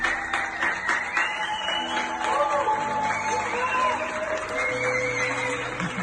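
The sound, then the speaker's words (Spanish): Neighbours in Barcelona clap steadily for several seconds for a singer's improvised balcony concert around 9 in the evening, a dense, continuous patter of applause, mixed with scattered cheers, whoops and voices calling out over it. “improvisaba un concierto muy íntimo, eso de las 9 de la noche para sus vecinos, que era muy bienvenido por el público que, bueno, improvisaba este aplauso para ella.”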